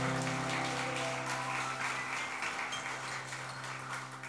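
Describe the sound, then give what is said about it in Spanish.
A crowd claps together in steady, sustained applause for the Lord for several seconds, a dense patter of many hands with a low sustained hum underneath and no talking. “¿Qué tal si damos un aplauso al Señor, así como para animarnos?”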